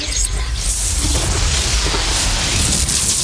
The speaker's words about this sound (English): A bolt of lightning pierces through the girl's heart. I quickly turn around, seeing Syra's fingers sizzle from her bolt.